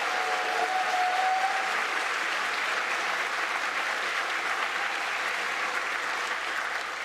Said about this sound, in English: Everyone here is absolutely lovely, and thank you for that. So round of applause for yourselves for just being lovely people.